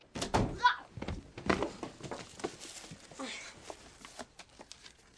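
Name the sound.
door being shut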